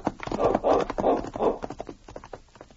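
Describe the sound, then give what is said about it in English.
Sergeant Preston's horse clip-clops along the trail toward Bear Creek in a quick, steady rhythm, loudest at first with four strong beats, then softening into lighter, fainter hoofbeats. No voices are heard. “As Sergeant Preston rode along the trail toward Bear Creek after leaving the constable in the mysterious cabin, the thought that had come into his mind was still uppermost.”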